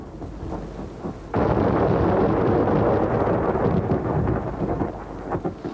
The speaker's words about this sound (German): Eines Nachmittags, als sie wieder mal mit Rübenziehen beschäftigt waren, wurde der Himmel ganz dunkel und es kam ein furchtbares Gewitter.